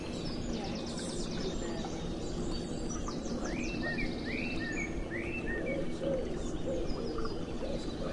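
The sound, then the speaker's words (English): A pigeon coos in low, repeated phrases within a busy outdoor soundscape, with thin chirps and trills from smaller birds scattered above and steady ambient noise throughout. “Good pigeon.”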